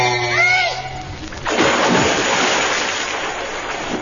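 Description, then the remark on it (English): A whistling, gliding tone, then a loud splash as a body plunges into water at a springboard, followed by several seconds of churning, sloshing water that slowly settles. “in that water.”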